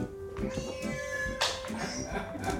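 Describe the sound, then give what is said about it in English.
A half-asleep male cat meows, a few drawn-out, tonal cries running into one another, with some soft rustling and murmuring in the background. “He was still half asleep and was only meowing at Dennis the cat.”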